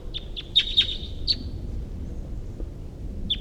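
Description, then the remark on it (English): A wild bird calls in a quick series of high, sharp chirps over a low, steady background rumble, then falls quiet before one more chirp at the end. “What is in the direction of the wild bird here?”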